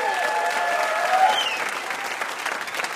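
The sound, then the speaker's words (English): A crowd claps steadily in sustained applause for the VIP guests Alex Bloomberg and Adam Davidson after a trivia quiz, a dense wash of many hands at a fairly even, moderately loud level, with a faint whoop or voice rising briefly in the mix. “And one more round of applause for our VIPs, Alex Bloomberg and Adam Davidson.”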